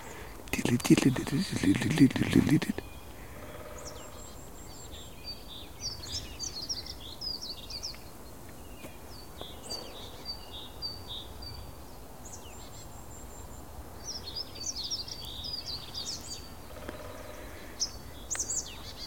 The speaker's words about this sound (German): Ja, die Meise schimpft ein bisschen, weil ich hier rumstehe.